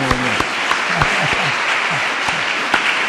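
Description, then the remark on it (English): A crowd applauds steadily, a dense wash of overlapping hand claps at an even level throughout, with a few faint voices murmuring underneath; the applause thanks a woman who translated the talk into German. “I want to say thank you to this sister. Please sag applaud danke.”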